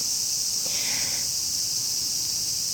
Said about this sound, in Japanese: まあ今日も セミの BGM とともにお届けしました。